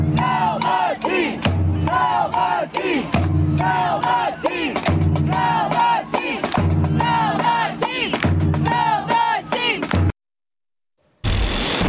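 Spirit fans at Audi Field in the United States chant "sell the team" over and over in a loud, steady rhythm, putting pressure on the ownership group, the voices blending into one roar, with a brief silent break just before the end.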